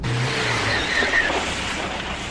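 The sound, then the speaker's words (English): A car engine rumbles, then tires squeal briefly as the car skids to a halt at a passing place. Fairly loud, with no voices. “Stop the fucking car!”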